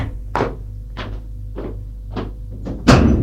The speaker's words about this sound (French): Il longe un long couloir et au bout du couloir se trouve une porte à deux battants capitonnée de cuir noir. L'hôtesse va ouvrir la porte.